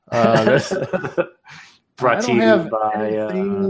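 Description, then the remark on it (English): A person coughs hard a few times, rough, throaty bursts with a short pause between them, then a longer strained, voiced cough-like sound. “God, I got this nasty cough still.”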